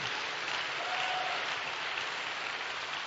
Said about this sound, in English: If you are clapping, you are clapping to the glory of God. You are not clapping to anybody.